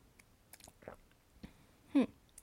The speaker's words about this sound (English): Kind of sweet, kind of not. I don't know how to describe it. Very good though. I really like it. One more sip.